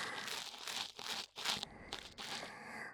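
Scratchy, crackling rustles of an ear pick scraping inside an ear, coming in irregular strokes with brief pauses, fairly loud, with no talking.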